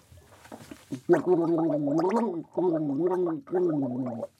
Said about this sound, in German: Okay, wir nehmen natürlich ganz normales Wasser. Sprudelwasser wäre doof, glaube ich. Ein bisschen ekelhaft. Ja, genau. Also ich fange mal an. Ich gurgel jetzt einen Satz vor. Achtung.